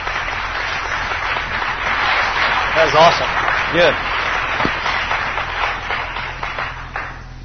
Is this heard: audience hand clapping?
yes